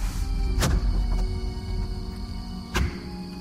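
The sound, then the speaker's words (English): Two solid, irregularly spaced knocks on a door, with a couple of fainter taps between them over a steady low hum; the knocking begins at 11:59 at night in a dark, empty house. “At exactly 11:59, you begin knocking.”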